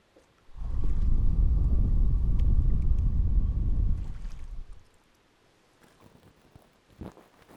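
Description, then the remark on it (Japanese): A boat being rowed on water: a loud, deep churning rumble for about four seconds, then it drops away to faint splashes and a few soft knocks. No one speaks. “ボートを漕いでいたんですが、疲れて眠ってしまったんです。”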